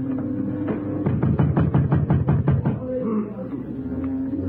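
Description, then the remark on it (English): Someone tries a locked door, producing a quick burst of about a dozen rattling knocks over two seconds, then it settles into a low murmur and hum. “Then I heard them try the door.”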